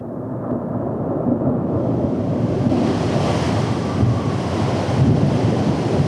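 A loud, steady storm roars throughout, a dense wall of rumbling wind and crashing surf that swells brighter and harsher after the first couple of seconds, with no voices present.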